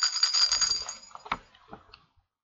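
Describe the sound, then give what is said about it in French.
Scissors snip through a sack: a short metallic shimmer gives way to two or three crisp, sharp cuts spaced apart, with quiet rustling between them and no voices. “Dans la poche de son tablier, elle trouve des ciseaux. Alors, elle découpe le sac, clic, clac, et sort la tête pour regarder.”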